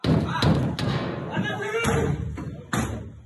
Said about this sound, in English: Then Ted Hui got a knock on the door.